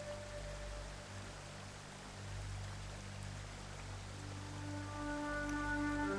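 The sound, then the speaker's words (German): A small river gurgles and rushes steadily at low volume beside a path, glimpsed through bushes at the next bend, a continuous soft wash of water with faint sustained tones humming underneath throughout. “Ein leises Gluckern und Rauschen dringt an dein Ohr. An der nächsten Wegbiegung kannst du einen kleinen Fluss durch die Büsche blitzen sehen.”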